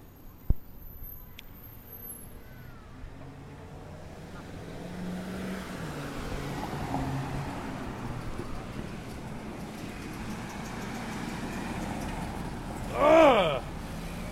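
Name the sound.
road traffic passing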